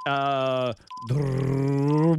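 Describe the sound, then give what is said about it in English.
A voice imitates a race car as a sound effect in a timed guessing game, with two sustained, buzzing engine-like vocal drones, the first steady, then a brief pause and a second lower one that holds and fades, loud and alone. “Race car.”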